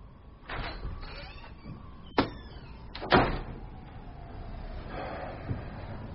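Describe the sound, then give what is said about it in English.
A door opens with a short mechanical clatter, followed by a couple of sharp knocks and rattles, then a soft shuffling as a visitor steps inside. No one speaks. “It's open.”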